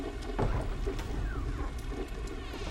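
Steady rain falls with a dense, even hiss and patter that holds without a break, with no voices, just a continuous wash of drops.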